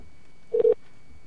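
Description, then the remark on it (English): Two quick electronic beeps from a telephone keypad as buttons are pushed, close together and fairly clear, with near silence before and after and no voices. “I got to push some buttons here.”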